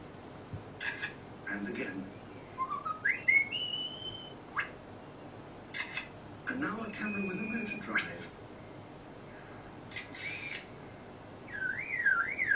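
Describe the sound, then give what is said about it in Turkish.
A bird imitating the sounds of other birds and things runs through a string of mimicked sounds: sharp mechanical clicks and rapid clattering bursts like a camera shutter, mixed with rising whistles and warbles, moderately loud. “Şimdi fotoğraf makinesi tarzı sesler çıkartacak birazdan.”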